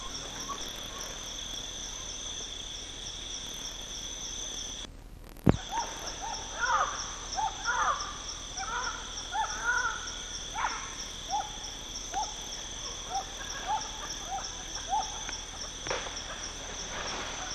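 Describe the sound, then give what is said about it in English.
A bay owl (Badius) gives a run of short, wavering quavers and barking notes, repeated irregularly over a steady, high insect drone, after one sharp thump. “Quavers and barks from Badius, same day as preceding”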